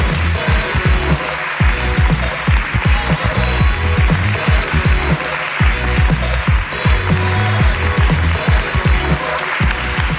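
Sustained audience applause, a dense, steady wash of many hands clapping at once, loud and unbroken for the full stretch with no voices cutting through.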